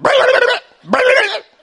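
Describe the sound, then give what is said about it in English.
Two loud dog barks, each drawn out for about half a second with a brief pause between them. They are harsh and rough, with no talking around them. “They are real polite dogs.”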